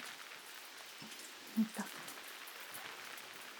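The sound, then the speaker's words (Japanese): Steady rainfall, growing heavier, hisses across the whole stretch, a dense patter of drops on a surface, with a couple of brief soft thumps near the middle and no voices. “雨も強くなってきましたし、中入りましょうか。”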